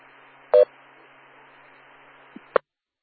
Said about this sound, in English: Ah, that's what happened. My phone was giving me a low battery warning there.